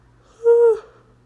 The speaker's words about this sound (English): But, yawn.